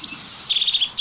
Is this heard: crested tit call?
yes